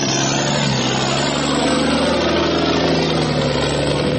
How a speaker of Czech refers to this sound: Mirno jutarnje prepodne na momente prekine prolaz bučnijeg vojnog kamiona ili vozila koje izazivaju znatiželjne poglede starijih meštana iz obližnje kafanice.